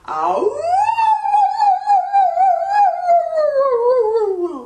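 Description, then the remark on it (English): A person imitates a wolf howl as a vocal warm-up exercise, one long sustained wail that sweeps up, holds steady with slight wavering, then slowly falls in pitch, loud with no other sounds. “Last thing, howl like a wolf.”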